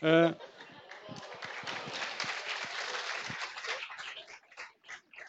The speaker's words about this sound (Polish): Dziękuję za te oklaski, zachęcam je do więcej.